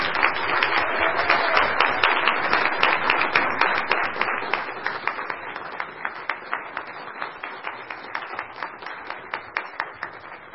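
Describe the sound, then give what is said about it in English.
Audience applause welcoming a child, a dense burst of many hands clapping that thins out after a few seconds into scattered, fairly rhythmic individual claps before fading. “Please join me in a round of applause to welcome him to the world.”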